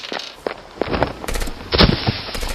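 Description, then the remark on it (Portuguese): Gunfire riddling a car's gasoline tank with bullets: a rapid, irregular string of sharp cracks and thuds, with a louder, denser burst of impacts toward the end. No voices. “O Chen sai correndo e olhando pra trás, vê que o tanque tá começando a ser cravejado de balas.”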